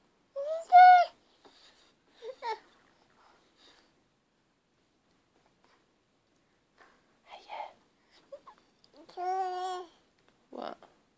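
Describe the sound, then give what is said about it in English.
A baby babbles and coos happily in short bursts of high, sing-song vocalizations, separated by quiet pauses. “And now I've pressed record. You're all happy and chirpy.”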